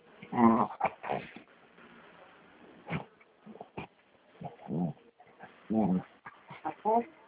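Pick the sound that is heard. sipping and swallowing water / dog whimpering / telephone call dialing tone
dog whimpering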